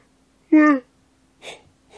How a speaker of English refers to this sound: I don't know why I yawn.